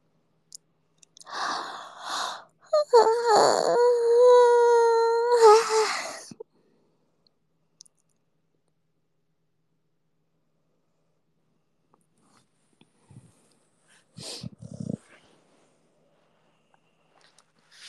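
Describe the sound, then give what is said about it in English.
A female dog named Bubble yawns, a drawn-out squeaky, whining exhale lasting a few seconds, followed by quiet and a couple of faint rustling sounds. “I made her yawn.”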